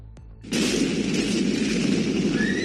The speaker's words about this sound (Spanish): Tremenda explosión en el puerto de Beirut en agosto todavía deja muchísimas secuelas en este país